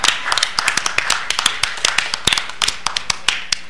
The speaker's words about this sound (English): Everybody, please give my lovely assistant a hand. Yeah.